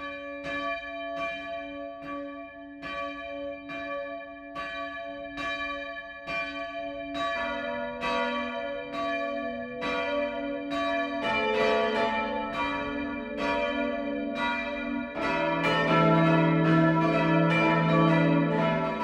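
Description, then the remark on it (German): Church bells in the village of Heustreu, Lower Franconia, ring the midday chime steadily in a regular rhythm, first a single bell and then more bells joining in so the peal grows fuller and louder, with no talking. “Das Mittagsläuten kommt heute aus dem Dorf Heustreu im unterfränkischen Landkreis Rügen-Grabfeld.”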